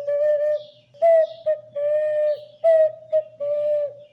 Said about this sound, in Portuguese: Hoje eu conheci um brinquedinho que chama zabelê, um apitinho assim, que faz, que também é entalhado na madeira. Assim.